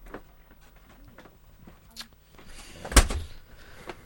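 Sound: door opening or closing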